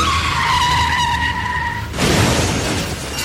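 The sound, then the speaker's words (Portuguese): A car skids with a loud, sustained high-pitched tire screech for about two seconds, then a sudden harsh crunching roar of impact and scraping takes over. No voices. “Chefe está derrapando.”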